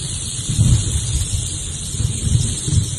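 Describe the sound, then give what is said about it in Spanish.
A rattlesnake shakes its tail in a steady, dry, high-pitched buzzing rattle that runs unbroken for the whole clip, over a low rumbling background. No one speaks. “Y es que en España no hay serpientes de cascabel como la que acabamos de escuchar.”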